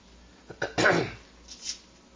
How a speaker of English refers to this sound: I'm still coughing from all that propane that went down in my lungs.